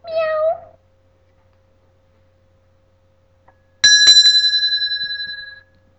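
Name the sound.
cat meowing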